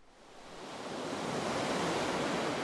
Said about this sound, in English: San Juan del Sur looks ideal. Waves crash along a horseshoe bay, its crystalline waters reflecting calm.